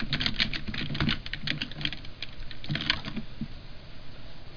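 Rapid, uneven clicking of keys on a computer keyboard, fairly loud, with brief pauses between bursts of typing and no voices.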